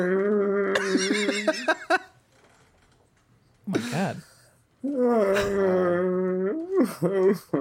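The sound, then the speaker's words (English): A dog up on its hind legs whines and cries in long, high, wavering bursts that rise and fall in pitch, loud and insistent, with a short pause between calls and a person briefly exclaiming. “He's up on his hind legs and crying.”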